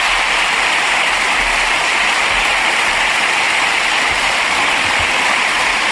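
Parliamentary applause: a dense, steady wash of many hands clapping together, holding an even, fairly loud level for several seconds without any single voice rising above it.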